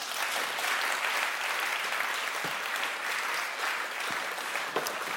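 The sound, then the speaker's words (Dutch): Steady audience applause for several seconds, a dense, continuous clatter of many hands clapping with no talking over it, welcoming the arriving guest, writer Jaap Scholten. “Kom erbij, Jaap Scholten, geef een applaus.”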